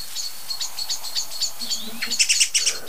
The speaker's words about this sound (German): Und ihr hört es dir selber. Schimpfen, schimpfen, schimpfen. Richtig laut. Wie ich finde. Und es ist nicht nur eine Amsel oder eine Singdrossel. Es sind jetzt viele, ne?